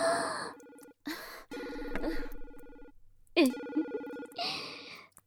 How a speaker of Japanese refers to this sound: 何よ、今いいところなのに電話。